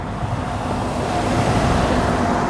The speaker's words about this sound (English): Gotta wait for a truck to go by. Because, this is an industrial park.